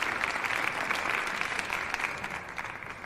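Steady applause from a group fills the room, a dense patter of many hands clapping at a moderate level, fading slightly toward the end.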